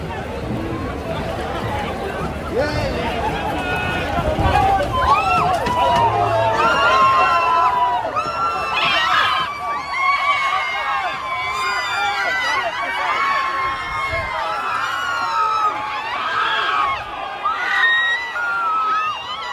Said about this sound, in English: There is lots of screeching. There are lots of adults behaving like children when the police run in and try and stop them from blocking the road.